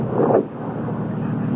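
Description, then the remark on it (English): A car's engine rumbles in a low, steady drone as the car slows down, fairly loud, with a slight swell early on before settling into an even idle-like hum. No voices. “Listen, that's a car. It's slowing down.”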